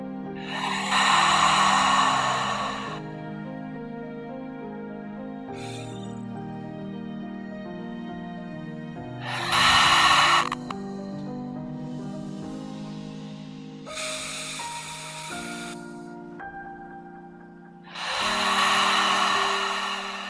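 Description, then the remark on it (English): Four loud, airy nasal inhales recur at a slow, steady pace, each a rushing breath through the nose during a guided breathing exercise, over a soft sustained musical drone with no talking. “When you're ready, let's start the breath together. Breathing it through the nose.”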